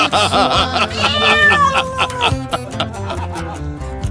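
A cat meows repeatedly in loud, drawn-out, wavering cries that rise and fall, packed closely together over a dense, busy background with no clear talking.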